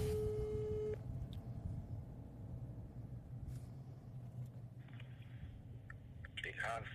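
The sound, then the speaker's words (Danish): A steady phone tone sounds for about a second over a low engine rumble, followed by a quiet stretch and then a few short electronic beeps near the end as a phone call to a man is placed. “Okay, jeg ringer til ham.”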